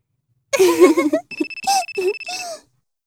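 A mobile phone ringtone sounds as a steady, high electronic tone lasting about a second, following a sighing voice and overlapped by short vocal sounds.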